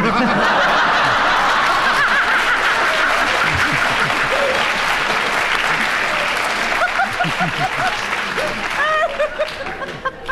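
A crowd applauds steadily for around ten seconds, the dense clapping mixed with bursts of laughter and chuckles before it begins to thin out at the end.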